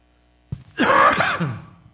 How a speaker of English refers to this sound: I'm starting a chain reaction of coughing all over the congregation. I'm sorry.